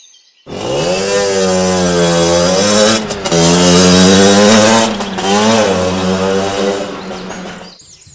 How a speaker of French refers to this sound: Oh, c'est pas vrai! Encore un de ces engins à moteur qui vient perturber notre calme! Ça m'a réveillé de ma sieste!